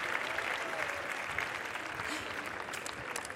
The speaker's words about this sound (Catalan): Un aplaudiment per la Mònica.